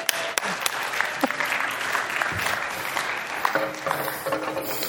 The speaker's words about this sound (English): Jeff always makes you guys applaud for me, and it always is super uncomfortable. So let's applaud Jeff, can we?